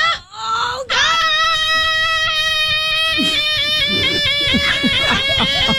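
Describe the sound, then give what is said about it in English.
A person's voice imitates a car alarm: a steady, high, strained tone held for a couple of seconds, then breaking into quick repeated up-and-down warbles, with no other talking. “It's the car pitch. Alarm challenge.”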